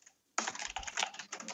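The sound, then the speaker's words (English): A busy photo editor types rapidly and furiously on a computer keyboard, a dense flurry of clicking keystrokes that starts abruptly and keeps going without pause, no voices. “I'm just recording your furious typing.”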